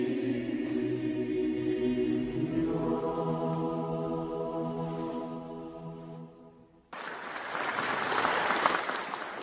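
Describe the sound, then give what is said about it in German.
A choir from Brno holds a sustained chord in the Nepomuk Church, and as it fades, loud applause from a large audience bursts in and keeps going steadily to the end. “Anhaltenden Beifall erntete der Brünner Chor in der Nepomuk-Kirche.”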